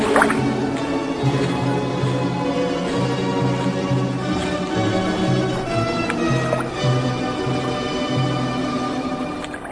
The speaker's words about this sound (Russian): Вдруг послышались быстрые шаги по камням, затем всплеск воды.